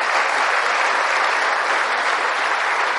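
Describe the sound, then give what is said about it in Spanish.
Steady, dense applause from a crowd at a Christian teaching, given in honour of Jesus Christ, a continuous wash of many hands clapping at an even, loud level with no talking over it. “la oración cristiana no es que la mente se desocupe, sino que la mente se llene de la presencia bendita de Jesucristo, quien merece todo honor, toda gloria y un aplauso hermoso para él.”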